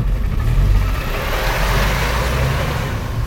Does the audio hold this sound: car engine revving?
yes